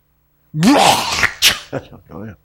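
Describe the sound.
A person voices an exaggerated, theatrical sneeze: a rising drawn-out intake, then a sharp breathy burst, followed by a few short voiced trailing sounds.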